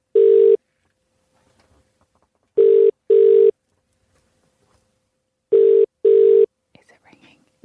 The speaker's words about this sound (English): We have a number of one lucky person here. All they have to do at this point is answer the phone.